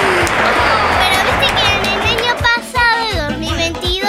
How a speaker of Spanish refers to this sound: Muy bien. Ahí está. Aplauso